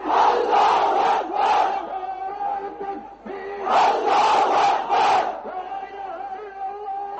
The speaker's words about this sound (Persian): اینچنین در دکه پایتخت بنگلادش هزاران نفر در نزد مسجد جامع شعار افکندند.